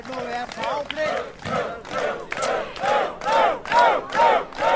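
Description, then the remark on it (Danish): A crowd of citizens demonstrating in Denmark, shouting in unison, loud rhythmic chants rising and falling in roughly regular bursts, with many voices blending together. “Det er nogle følelsesprægede borgere, Bent Hansen.”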